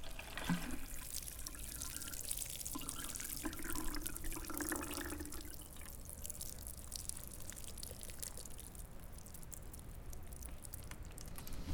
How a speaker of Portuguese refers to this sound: Precisamos regar planta, hein? O regador aqui tá.